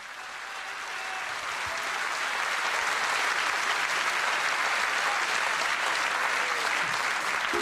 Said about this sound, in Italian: Amici, amici, questa sera in questa bellissima e grandiosa piazza è venuto un amico mio fin dal Peloponneso. Applaudiamo più forte che possiamo, Pericle!